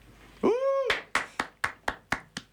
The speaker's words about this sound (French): Petit applaudissement.